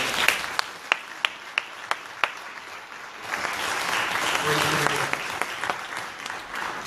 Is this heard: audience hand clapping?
yes